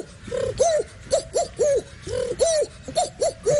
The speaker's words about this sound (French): Pigeon.